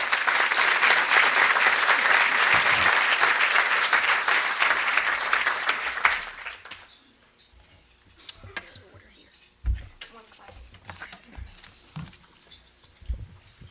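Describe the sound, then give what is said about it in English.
An audience breaks into a dense, loud round of applause for speaker Ken Steele that holds steady for several seconds, then quickly dies away into quiet broken by a few soft, low thumps. “We are delighted to be here, and please join me in a round of applause for Ken Steele, my colleague.”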